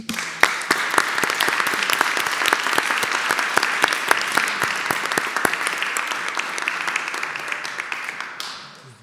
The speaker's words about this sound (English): She's the board secretary, and I'd just like to hear a round of applause for what a good job she does.